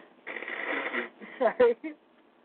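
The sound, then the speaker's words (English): A loud nose blow during allergy season: one long breathy honk followed by a few short snuffly bursts, then quiet. “I'm going to blow my nose real quick.”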